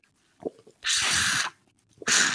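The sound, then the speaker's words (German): Two long, loud slurps through a drinking straw from an Argentinian mate gourd called a porongo, each a broad airy hiss lasting over half a second, separated by a short pause with small sucking clicks. “Also ich habe auf jeden Fall Ähnliches dabei, aber aus Argentinien. Und wir nennen es dann Porongo. Von der Funktion gleich. Also ich schlürfe auch ein bisschen.”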